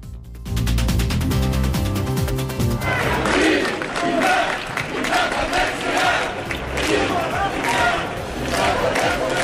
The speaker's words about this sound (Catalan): Els crits d'independència i les estelades van ser les protagonistes en la concentració per reclamar la República a la plaça de la Font de Tarragona. L'acte va reunir més de 700 persones de diversos partits i col·lectius.